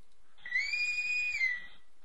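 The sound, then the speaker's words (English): A single shrill whistle blast holds a steady high pitch for about a second, dipping slightly at the end, heard alone against a quiet background with no talking. “And of course, that is the whistle.”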